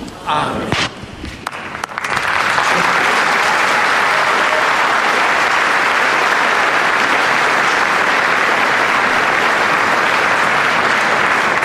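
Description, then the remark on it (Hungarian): A huge crowd of pilgrims bursts into thunderous applause for Pope Francis after a blessing, following a brief moment of voices, the dense clapping swelling within two seconds and then roaring on steadily and loudly without letup. “Ez már szinte a régi tapsvihar volt, amihez hozzá voltunk szokva, hát hála Istennek, hogy hallhatjuk, és gondolom, hogy a zarándokok is nagyon örvendenek, hogy találkozhattak Ferenc pápával.”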